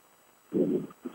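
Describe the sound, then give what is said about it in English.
A low, muffled rumble of distant thunder from a lightning strike about 15 miles away, during hard rain, swells for about half a second, then a shorter, softer rumble follows. There is no talking. “That was one heck of a lightning strike way over there in the distance.”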